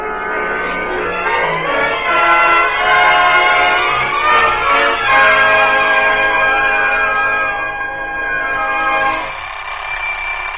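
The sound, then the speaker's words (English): An alarm clock bell rings loudly and continuously for about nine seconds, a dense metallic clatter, then drops to a softer, thinner ring at the very end. No one speaks. “Will you please shut off that alarm clock and come down to breakfast?”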